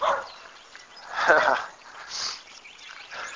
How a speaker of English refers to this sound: We just finished. Oh, here's the neighbor's dog.